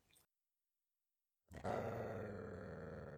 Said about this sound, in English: No. Bad dog. Don't growl at me. Okay. I'll let go. Calm down. Just calm down, okay? I'm sorry, Butler. I shouldn't have grabbed your collar.